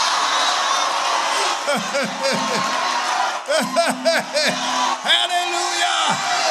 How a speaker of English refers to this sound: Let us shout. Somebody need to shout. Somebody need to shout.